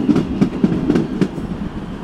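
A train rumbles past in a train yard beside a home by a cemetery, its wheels making a steady clickety-clack over the rails with a low, heavy rolling drone underneath. No one speaks.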